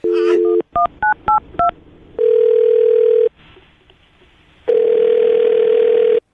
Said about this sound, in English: I'm gonna dial his phone number right now, see if we can get Dent on the phone